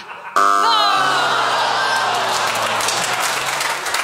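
audience clapping

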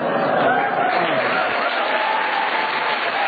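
audience clapping

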